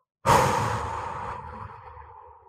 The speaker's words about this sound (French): Quand tu ne peux plus retenir ta respiration, souffle tout l'air que tu as dans les poumons d'un coup, comme ça.